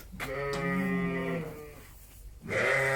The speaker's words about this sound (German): Ja, die sind jetzt ganz aufgeregt. Die Schafe sind aufgeregt, weil sie jetzt nicht recht wissen, was hier passiert.